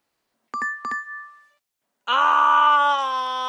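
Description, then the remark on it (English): Two quick electronic beeps ring out and fade, then after a short gap a loud, buzzing, steady harmonic tone starts up, like the opening of a dial-up modem connecting. “Ah, the amount of people who are not going to remember dial-up.”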